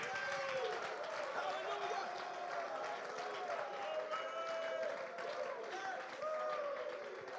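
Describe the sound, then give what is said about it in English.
A church audience, men among them, claps steadily while many voices shout praise to God over one another, a dense, continuous wash of crowd noise that stays loud throughout. “Clap your hands, men. Shout unto him.”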